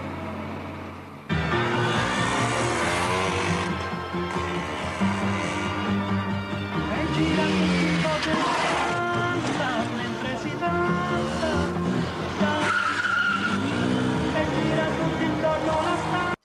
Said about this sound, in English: lads, I'm going to need you to stop doing wheelies on your little motorbikes